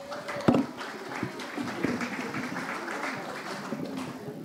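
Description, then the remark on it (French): An audience claps steadily for the collège Jean de la Fontaine in dense, continuous applause, with a few sharper, louder claps standing out near the start. No one speaks. “Pour continuer ce présentoir, je vous demande d'applaudir le collège Jean de la Fontaine.”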